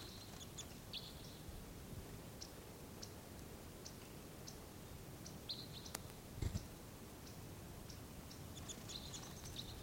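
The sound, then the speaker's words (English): Four crossbills give short, sharp, high-pitched calls as they come into a juniper, scattered singly and in quick clusters across the whole stretch, fairly faint over a steady low rumbling background, with no one talking. “There's four crossbills altogether.”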